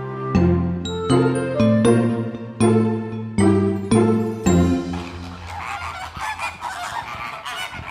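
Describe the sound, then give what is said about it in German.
A flock of flamingos at Hellabrunn zoo, by the flamingo entrance, honks in a loud, overlapping goose-like chorus of nasal calls, repeated in rhythmic bursts before fading into a busier, noisier wash of bird chatter. “Genau, die begrüßen einen am Flamingo-Eingang schon ganz herzlich, unsere Flamingos.”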